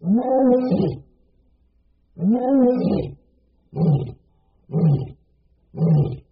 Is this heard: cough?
no